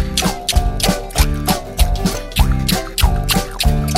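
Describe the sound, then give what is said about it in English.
Rhythmic mouth clicks, imitating a squirrel, pop in a steady beat of short, bright, wet-sounding taps over a bouncy musical backing, with no one speaking. “Click your mouth like a squirrel does.”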